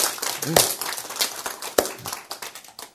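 An audience at a Bible study session on the Book of Revelation claps in a quick, uneven patter of many overlapping hands, with a few sharper accented claps standing out and some vocal sounds mixed in underneath.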